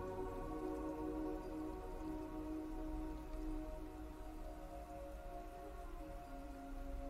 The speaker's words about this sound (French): Une douce pluie émerge du plafond du temple, vous permettant ainsi de bien ressentir votre corps de nouveau.